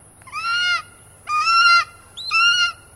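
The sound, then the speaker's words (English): A golden eagle calls three times, each loud, clear, slightly nasal cry lasting about half a second and separated by brief pauses, with no talking and only a faint background hum. “Let's let the golden eagle illustrate.”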